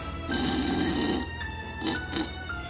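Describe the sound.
Loud, raspy snoring of an ogre who has drunk too much and gone back to bed in a house: one long rattling snore followed by two shorter snorts, with no talking.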